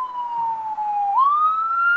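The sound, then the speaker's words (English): A loud ambulance siren wails as it passes, its tone sliding slowly downward and then climbing again, with no voices over it. “Oh, it's an ambulance. Never mind. Ambulance for the... Holy shit, that's fucking loud.”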